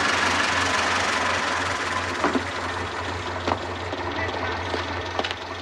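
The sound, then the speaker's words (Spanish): A small armored military vehicle, halted at the narrow entrance of an alley, idles steadily with a deep, constant rumble and mechanical knocking, with a few faint clanks and thumps scattered over the drone. “Lo angosto de la entrada hace detenerse a la tanqueta.”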